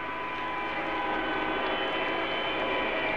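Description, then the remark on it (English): A chorus of car horns from the cars surrounding St. Peter's Square, blown to applaud the Pope as he appears at his window for the noon benediction, blares together in a steady, overlapping wall of sound, sustained tones layered over a constant rumble for the whole stretch, with no voices. “The people remaining in the cars that surround St. Peter's Square applaud the Pope by blowing their horns.”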